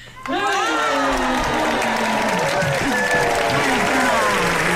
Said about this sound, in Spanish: Los aplausos del público.